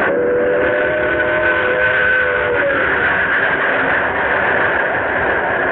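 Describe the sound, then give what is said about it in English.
The 11:55 train rumbles in right on time with a steady, loud roar while a sustained whistle tone sounds over the first half, then fades out, leaving the continuous rolling noise. No one speaks. “Here's the 11:55 now. Right on time.”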